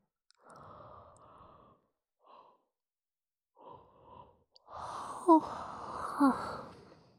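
A few soft, breathy exhales lead into a long, drawn-out voiced yawn whose pitch rises and falls, louder than the earlier breaths, with no talking.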